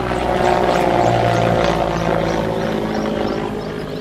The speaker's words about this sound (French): Un hélicoptère de la MINUSCA survole le secteur.